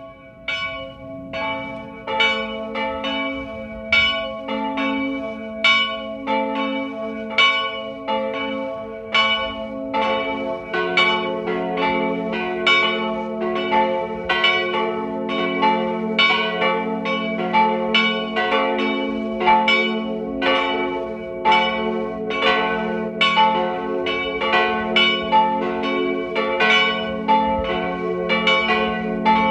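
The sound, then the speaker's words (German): Bells of the parish church of Winden am Neusiedlersee in Burgenland ring continuously at noon, several bells pealing in overlapping, steady strikes with a rich, resonant hum, loud and sustained throughout with no voices. “Sie hören die Glocken der Pfarrkirche von Winden am Neusiedlersee im Burgenland.”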